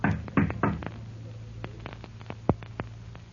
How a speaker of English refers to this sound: And what will happen when the door of the manager's office opens to his knock